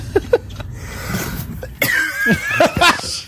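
A bout of harsh coughing: a couple of sharp coughs first, then a louder run of raspy hacking with a wheezy, strained tail, no words spoken.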